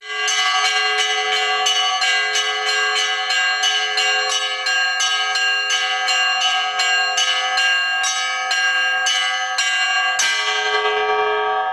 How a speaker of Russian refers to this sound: Колокольный звон после воскресной литургии созывает прихожан.